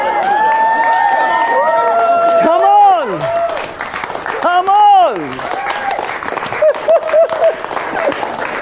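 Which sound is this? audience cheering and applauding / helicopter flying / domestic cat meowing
audience cheering and applauding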